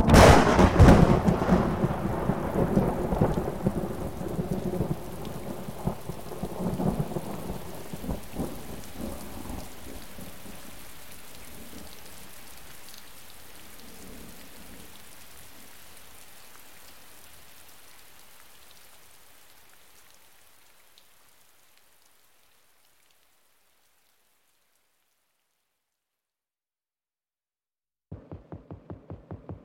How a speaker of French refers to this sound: Quand vient l'orage. Enroule-toi, isole-toi de tout, roule en toi. Quand vient l'orage. Sinon la foudre vient sur toi.